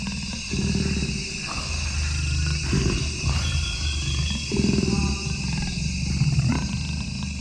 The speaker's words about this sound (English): And I turned on my recorder, and all of a sudden, the sound of this jaguar breathing right into the mic. It stepped right up to the microphone.